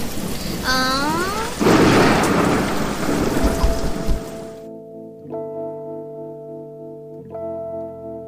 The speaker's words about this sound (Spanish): Ay, pero si está lloviendo y tenemos hambre.